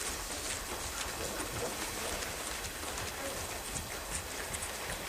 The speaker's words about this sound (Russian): Итак, становимся прямо и давайте попрыгали. Попрыгали, попрыгали.